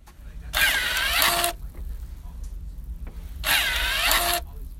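An automatic hand sanitizer dispenser runs twice, each time giving a brief, bright motorized whir with a rising-and-falling pitch, separated by a few seconds of near silence.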